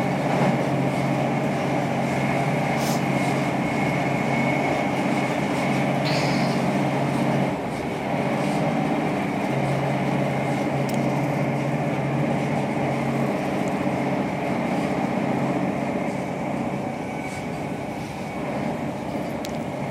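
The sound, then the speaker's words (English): A train rolls along in a steady, loud rumble with humming engine tones and occasional metallic squeals, easing off slightly toward the end as it begins to slow. “Slowing down, but I don't think we're quite there yet. No, she's going too fast to stop.”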